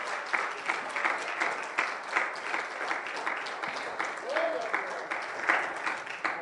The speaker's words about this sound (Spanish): Deme un aplauso al Rey de Reyes, Señor de Señores.